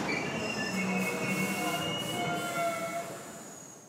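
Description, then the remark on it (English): A subway express train rumbles as it slows, its wheels letting out sustained high-pitched squeals and screeches against the rails, fairly loud, fading slightly toward the end. “He looked angrier and angry that the train was getting slower and slower.”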